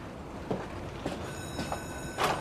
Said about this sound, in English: He lingers a moment before he opens the door and leaves.